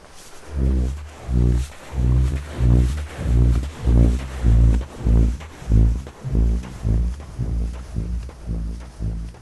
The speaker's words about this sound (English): The first one is this burping effect, as it's described, and it's just me walking up the dune. You might even hear me panting a bit because it's quite hard work.